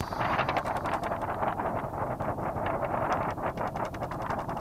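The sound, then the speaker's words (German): The car subwoofer bass system of sound artist Antje Vohwinkel booms with a dense, continuous low rumble, loud and steady throughout, its heavy bass smearing into a rough, windy-sounding roar with faint flutter above. No one speaks. “So klingt die Subwoofer-Anlage im Auto von Antje Vohwinkel.”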